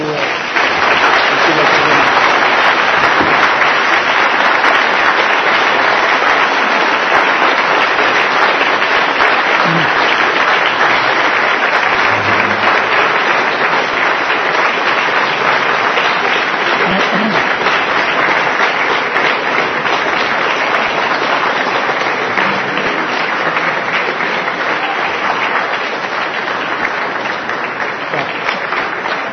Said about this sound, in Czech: Potleskem vám poděkovali.